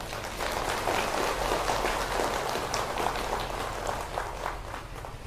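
crowd, large audience applause

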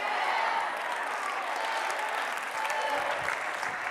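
crowd, audience shouting and cheering

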